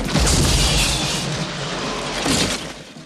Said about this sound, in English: Outside, Tango is blown to the ground by the bomb blast.